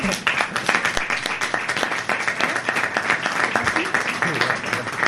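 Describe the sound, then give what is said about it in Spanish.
A crowd breaks into loud, sustained applause for the composer of the music for the city's festivities, dense overlapping clapping that holds steady for the whole stretch, with a murmur of voices mixed in. “¡Vamos a aplaudirle!”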